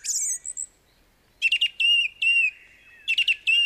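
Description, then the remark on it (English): A song thrush sings clear, with bright whistled phrases and sharp chirps, some notes repeated in quick bursts, separated by short pauses and no voices. “That's the wise thrush. He sings each song twice over, lest you should think he never could recapture that first fine, careless rapture, wrote Robert Browning in his poem Home Thoughts from Abroad.”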